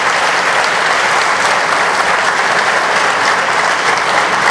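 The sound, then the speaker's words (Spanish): Loud, sustained applause from an audience for school rectors and teachers for their completed work, a dense steady wash of many hands clapping at once that holds evenly for several seconds without any voices rising above it. “Yo creía que ustedes, los rectores, ustedes, los maestros, se merecen hoy de nuestra parte, pero con el apoyo de ustedes, un fuerte aplauso por la labor cumplida.”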